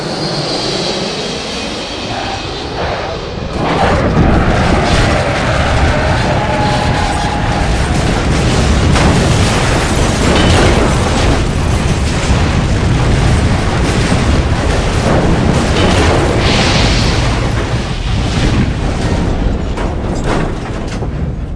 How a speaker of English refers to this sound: Man, that is a pretty goddamn good airplane crash effect, isn't it? Okay, that's what that was.